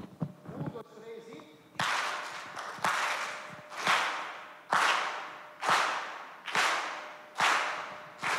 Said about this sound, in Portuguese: Quando ele der o tapa na caixa ali, pá, você bate a palma. Então vamos treinar? Vamos lá, eu vou fazer o pá, você bate palma comigo, beleza?